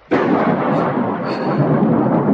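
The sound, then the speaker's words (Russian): A loud thunderclap during a thunderstorm with heavy rain bursts in suddenly, then rolls on as a heavy, continuous rumble for a couple of seconds, powerful with no voices present. “Быстро крестится во время раската грома.”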